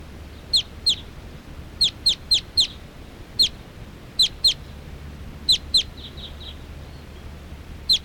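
Wild birds, which look like all females, perching in a big tall tree, call in a series of sharp, high-pitched chirps, about a dozen in irregular bursts, often in quick pairs, standing out clearly over a faint low background rumble. No one speaks.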